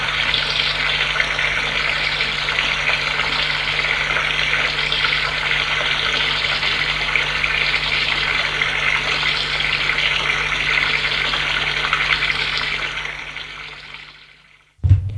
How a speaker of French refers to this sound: Il entre dans la baignoire et prend une douche vite fait.